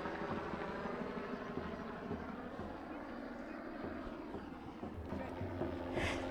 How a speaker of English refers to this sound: And the peaceful march has begun this Saturday, November 12th. Helicopters are overhead, Barnadur Road.